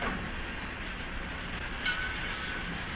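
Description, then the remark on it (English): A steady, broad rumble of trains fills a busy, crowded railroad terminal in Cincinnati, with a brief faint metallic squeal rising near the end. No one speaks. “It's the railroad terminal. In fact, we'll see lots of trains.”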